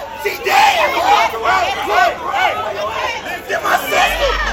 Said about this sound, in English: The shots were around the Hush Lounge nightclub in Birmingham's Five Points neighborhood. People screaming and crying for friends and family members.